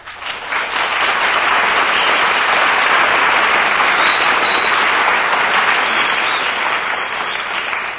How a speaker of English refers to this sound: That's an announcement that really deserves applause.